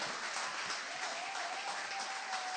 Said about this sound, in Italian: Forte l'applauso a Cristo!